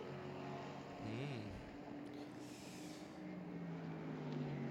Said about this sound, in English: Out that car rumbles. And the 2 litre four cylinder turbocharged engine getting up to pace.